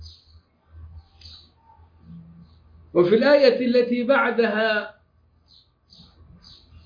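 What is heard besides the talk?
small birds chirping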